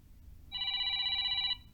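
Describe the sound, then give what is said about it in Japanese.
A telephone at the company Global Kato rings once in a steady, bright electronic burst lasting about a second, clear against a faint low background hum, with no voices. “お電話ありがとうございます。株式会社グローバル加藤です。”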